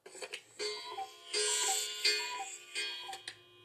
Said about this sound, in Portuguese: Quando ele soa, então, é um verdadeiro show, pois um passarinho sai da casinha acima do mostrador das horas todo animado, dizendo cucô, cucô.